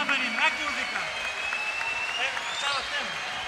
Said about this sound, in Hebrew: רבותיי, אני רוצה מחיאות כפיים לילדים.